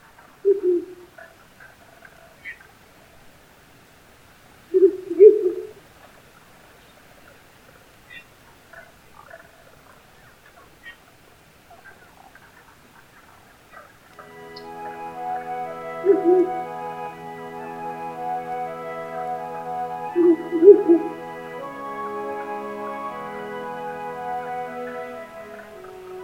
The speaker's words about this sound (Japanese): 夜明け前の森で鳴き合うフクロウのオスとメス。初夏の訪れの遅い高原ではこれから子育てを始めるのでしょう。